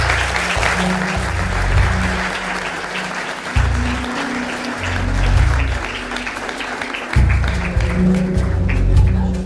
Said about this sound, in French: Vous venez de l'applaudir chaleureusement.